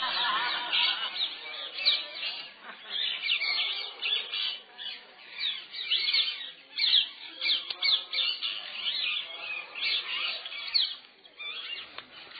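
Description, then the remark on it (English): A dense chorus of many birds in a tree overhead squawking and chattering at once, continuous and busy, with overlapping calls and no voices. “There's a lot of them. Birds up in the tree, sitting below the birds up in the tree.”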